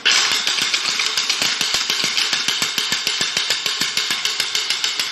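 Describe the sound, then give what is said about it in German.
A night watchman's wooden ratchet, once used by night watchmen to raise the alarm, rattles continuously, a rapid train of sharp, dry clicks at an even pace, loud and harsh with bright upper tones, lasting several seconds with no voices. “Das ist eine Nachtwächterratsche. Damit haben die Nachtwächter Alarm geschlagen, wenn sie etwas Verdächtiges festgestellt haben oder wenn es irgendwo in der Stadt gebrannt hat.”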